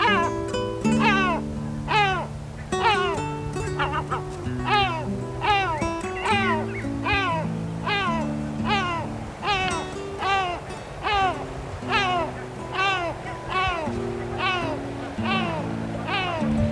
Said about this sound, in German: Das war die Mantelmöwe.